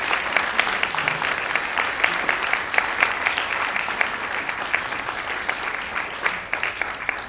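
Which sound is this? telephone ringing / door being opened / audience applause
audience applause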